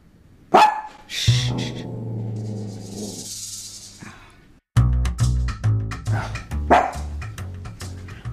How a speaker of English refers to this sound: So I didn't tell you about the dogs. You know, we never had dogs before all this happened.